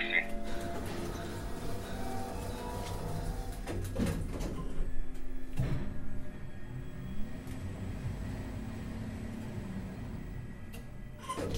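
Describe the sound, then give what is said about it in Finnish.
An elevator's sliding door rumbles and bumps as it tries but fails to shut, with a couple of sharp knocks midway over a steady mechanical hum and faint background voices. “Ovi ei pääse sulkeutumaan.”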